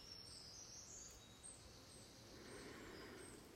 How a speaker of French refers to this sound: Donc voilà, les oiseaux de cette forêt m'accompagnent. Et les silences seront ponctués de leur chant.